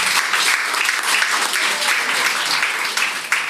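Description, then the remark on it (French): Sustained applause from a sizable audience, a dense, steady patter of many hands clapping at a fairly loud level for several seconds, with no voices standing out. “Ça peut être applaudi.”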